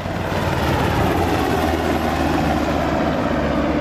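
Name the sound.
black Hawk helicopter flying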